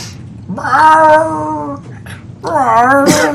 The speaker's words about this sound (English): Uh-oh. The cat.